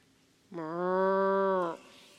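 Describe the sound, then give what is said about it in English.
A single cow moos once, a steady, drawn-out low call lasting just over a second, loud, with nothing else around it. “There were sheep and cows maybe?”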